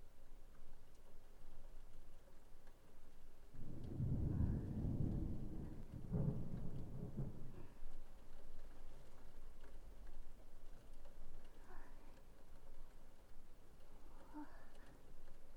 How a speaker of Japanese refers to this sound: すごい雨。